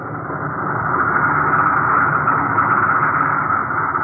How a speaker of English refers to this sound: Assembly lines as modern as American assembly lines. Take it away. Roll out the next bomber. Here's the way. Another bomber coming off the line.